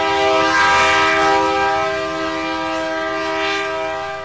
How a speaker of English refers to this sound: In the central blacklands of Texas, the freight trains stretch from one end of the horizon to the other.